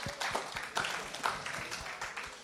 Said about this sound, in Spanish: Dale palmas al señor, eso ja necesitamos. Ja annetaan aplodit Herralla.